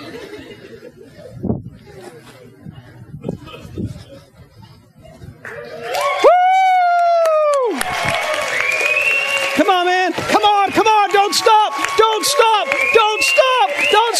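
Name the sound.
crowd cheering wildly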